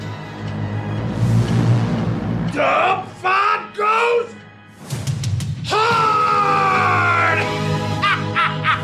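Loud yelling: a few short, strained shouts in quick succession, a brief pause, then one long, drawn-out holler over a rumbling background.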